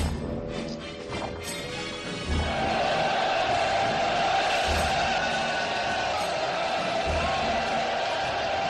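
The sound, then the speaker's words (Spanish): A large crowd of 8,000 film extras roars and cheers continuously, shouting "Cleopatra" in the filmed scene of Cleopatra's triumphal entry into Rome, a dense wall of many voices shouting together, with some thuds and clatter early on before the sustained crowd noise swells. “los 8.000 figurantes, en lugar de insultarla y abuchearla, lo que hicieron fue no seguir el guión y gritar Cleopatra, Cleopatra,”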